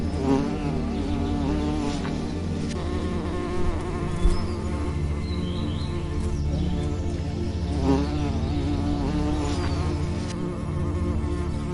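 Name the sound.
bee buzzing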